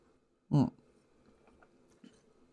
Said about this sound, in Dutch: Weer even een slok.